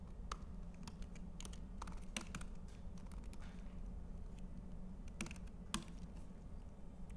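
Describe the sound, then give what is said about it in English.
Irregular bursts of keyboard typing as a password is entered into an app, quick clicky keystrokes with short pauses between them, over a low steady hum and no voices. “So now if we start typing in a password, oh, it does what we're looking for.”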